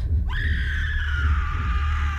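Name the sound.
human scream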